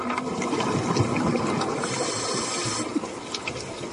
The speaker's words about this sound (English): And it always reminds me of a toilet flush.